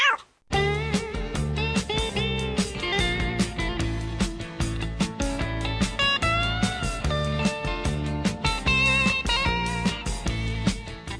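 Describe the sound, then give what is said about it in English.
A dense chorus of many cats meowing at once, their overlapping cries forming a loud, continuous wall of sound for the whole stretch, with no talking. “Hey, where'd all these cats come from?”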